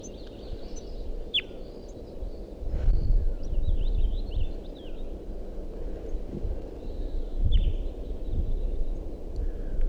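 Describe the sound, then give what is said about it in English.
Type 2 crossbill calls at a nest site at 6:09 a.m., with at least three birds about: a few short, sharp high chirps stand out, with fainter twittering notes scattered throughout, all over a steady low rumble of wind-like background noise. “and I'm at the site where I thought there was a nest, and there are crossbills about.”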